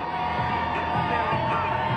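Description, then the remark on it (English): A large crowd of well-wishers cheers and shouts continuously at the Charlestown Navy Yard, welcoming a crew home, a dense wash of overlapping voices with whoops and yells rising out of it, loud and steady throughout. “A crowd of well-wishers met the crew at the Charlestown Navy Yard.”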